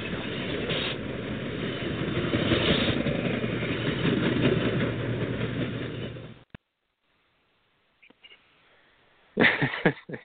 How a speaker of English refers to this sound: We have to at least do one of the Trump train sound effects during the show, or it wouldn't be complete.